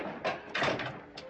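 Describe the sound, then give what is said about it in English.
A door is opened and shut, heard as a few short clunks and a brief rattle over about a second, fairly quiet, with no one speaking. “Hey, let me get the door.”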